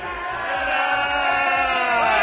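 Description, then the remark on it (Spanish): Citizens in the street outside a courthouse boo the four lawyers of the Infanta Cristina as they leave, a loud, steady, dense mass of jeering voices that holds for a couple of seconds and swells slightly toward the end, with a low rhythmic pulse underneath. “En la calle, los ciudadanos los despedían con abucheos.”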